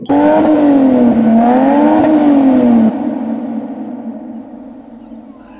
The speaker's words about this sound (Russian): в его Инстаграме есть фотографии Toyota Chaser и видео, где можно послушать рев ее мотора